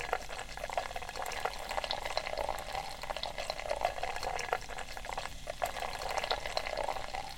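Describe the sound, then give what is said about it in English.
Beer pours steadily from a can into a very big pint glass, a continuous gurgling splash with a fizzy hiss that holds for about seven seconds without pause. No one speaks. “Let me try a little pour now while we're waiting for other people.”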